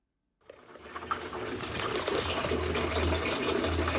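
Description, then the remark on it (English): A tap at a tap water kiosk in Nairobi, Kenya turns on and water gushes steadily into a container, a loud, continuous rushing pour with a low resonant hum as the vessel fills, with no talking. “runs a tap water kiosk.”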